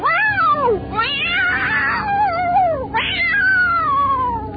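cat yowling

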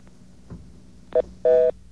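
telephone touch-tone dialing

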